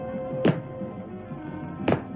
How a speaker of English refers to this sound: In the assembly shop, Emma stopped her investigations when she heard the familiar sound of the robot's footsteps.